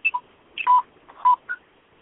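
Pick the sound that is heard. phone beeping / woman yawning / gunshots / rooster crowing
phone beeping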